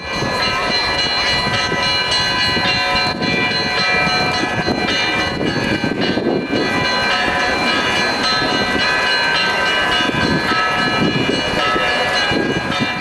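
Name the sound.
church bells ringing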